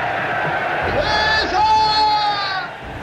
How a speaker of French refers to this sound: Qui est-ce qui dans cette foule a lancé mon nom? J'entends une voix plus aiguë que les musiques crier César.